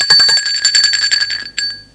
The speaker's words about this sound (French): On sonne à la porte.